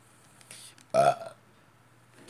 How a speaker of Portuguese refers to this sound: Aí, arrotei.